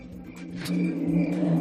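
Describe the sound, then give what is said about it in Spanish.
Street ambience at pedestrian crossings in Galicia, Spain: a car engine drones and revs steadily for a moment, with a thin, high, constant tone faintly above the rumble and no voices. “Esto es lo que suenan en 2 pasos de peatones de Galicia.”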